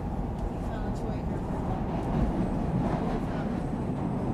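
A subway train rolls steadily along the tracks toward Lake station, a constant low rumble with faint rattling and squealing, heard from inside the car at a moderate, even level throughout.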